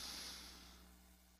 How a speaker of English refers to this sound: We're going to do 3 deep breaths. So in through our nose. Let's go in now.